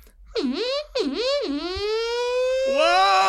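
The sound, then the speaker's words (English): A voice mimics an air-raid siren, swooping up and down in pitch twice before holding a long, rising wail, loud and unbroken with no talking. “So like when North Koreans come over, I can do like a really good siren, so like I think that'd be very helpful.”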